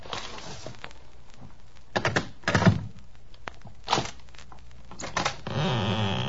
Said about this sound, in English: Oh, you got the letter with you? Yes, I've got it. Hey, put it under the door. Okay. Here it comes.